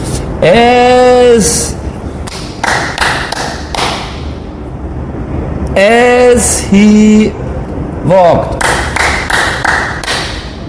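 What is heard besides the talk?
hand clapping three times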